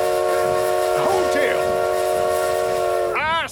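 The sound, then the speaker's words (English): A steam train whistle in Bison Gap blows one long, steady, loud chord over a constant hiss of steam as the train pulls out, with faint vocal sounds in the background, before the whistle cuts off and the tone bends away at the end. “You'll see it as soon as the train pulls out of the way.”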